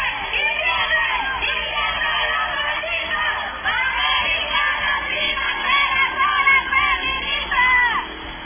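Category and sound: crowd, protest crowd chanting slogans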